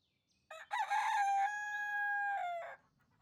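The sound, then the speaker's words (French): In a farmyard, a single rooster crows a loud cock-a-doodle-doo lasting about two seconds, with a long sustained middle note and a falling end, over a quiet background. “Dans la basse-cour, parmi tous les animaux, il y a une petite poule et son œuf.”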